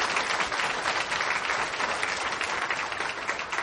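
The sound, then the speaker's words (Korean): An audience claps steadily in thanks for several seconds, a dense, even wash of many hands with no voices standing out over it. “우리 박수로 크게 감사를 표하십시다.”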